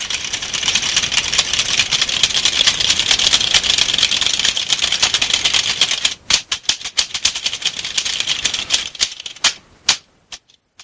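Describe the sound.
Rapid, frantic keyboard typing clatters, imitating the fake random typing people do on keyboards on TV: a dense wash of key clicks over a steady hiss, then sharper, uneven bursts of keystrokes before stopping abruptly.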